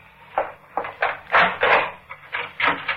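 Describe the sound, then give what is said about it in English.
A run of fairly loud clunks and rattles, like a bolt being worked loose and a wooden door pulled open, with no voices. “Oh, Bill, why did you bolt the door?”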